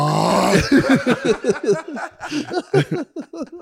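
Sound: imitated snoring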